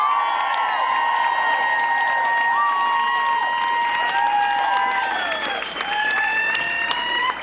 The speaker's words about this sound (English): And on bass and vocals, please give a warm round of applause